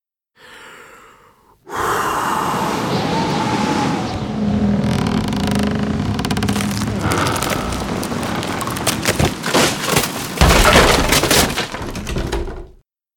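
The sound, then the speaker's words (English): A wolf's long, loud breathy whoosh of blowing air builds and holds, then a clatter of cracking, splintering wood bursts through as a wooden house breaks apart and collapses, with no one speaking. “Oh, no. The wolf is blowing down the house.”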